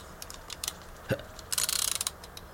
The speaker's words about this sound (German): Und jetzt tickt es. Wie bei einer Eieruhr.